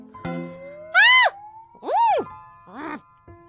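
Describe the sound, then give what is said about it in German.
A human voice imitates a brown bear screaming: three loud cries, each swooping up and back down in pitch, after a brief thump at the start. “Wenn sie aber grummelig und sogar wütend sind und dann zum Beispiel mit einem anderen Bären kämpfen, können sie auch laut schreien und schnauben.”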